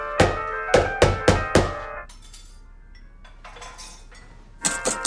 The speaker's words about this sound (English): smacks a mixing bowl against the counter.